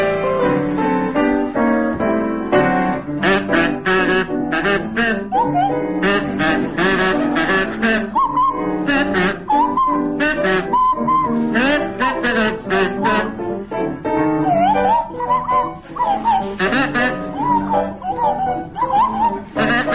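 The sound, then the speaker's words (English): Willie Rushton on a buzzy kazoo and Tim Brooke-Taylor on a sliding swanee whistle play together, imitating the Clangers, in a loud, continuous warbling duet, the pitch swooping up and down in short chattering phrases like creatures talking to each other. “To feature Willie Rushton on kazoo and Tim Brooke Taylor on Swanee Whistle.”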